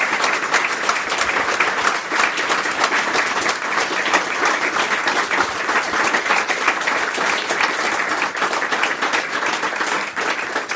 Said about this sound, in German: Das ist Ihr Applaus. Dankeschön. Danke.